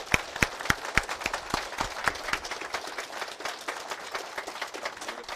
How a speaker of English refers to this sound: Let's go ahead and give him a round of applause.